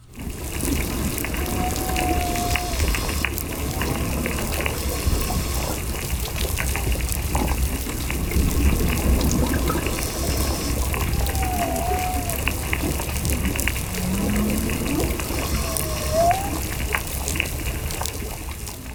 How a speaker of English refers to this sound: Scientists at Woods Hole Oceanographic Institute recorded this reef, complete with snapping shrimp, chirping parrotfish, and whistling damselfish.